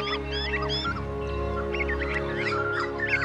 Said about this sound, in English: We call this the dawn chorus because it sounds like a chorus of birds. But have you ever wondered why birds sing?